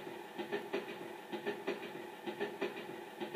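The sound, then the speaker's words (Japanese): A train rolls along the rails with a steady clickety-clack, wheel beats arriving in quick paired groups over a constant low rumble, moderately loud, no voices. “あんた毎日こんな電車に乗ってるのかい？”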